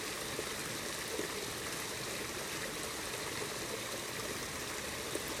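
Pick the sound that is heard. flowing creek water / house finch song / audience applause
flowing creek water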